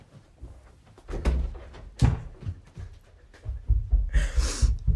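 Soft, muffled footsteps thud quickly across a floor as someone runs to answer the door for a delivery, a run of irregular low bumps and knocks that grows busier toward the end, with no one speaking.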